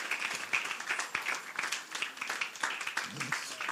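A crowd claps together in a dense, continuous patter of sharp, bright hand claps that carries on steadily for a few seconds, moderately soft, with no clear rhythm and no voices on top.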